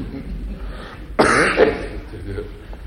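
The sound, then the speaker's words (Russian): A single short throat-clearing grunt, voiced by a person imitating a doctor who grunts after looking at a gift for a long time, rising abruptly out of quiet and fading within about half a second. “Доктор очень долго смотрел на подарок, потом крякнул, нерешительно высморкался.”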